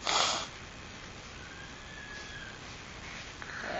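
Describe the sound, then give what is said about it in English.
A child has their nose blown by an adult: a short, loud, breathy burst at the start, then quiet, then a second blow starting near the end, with no talking. “I'll blow your nose real quick.”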